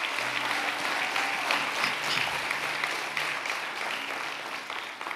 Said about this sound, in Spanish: Si quieres aplaudir, sí. Esta palabra merece un aplauso.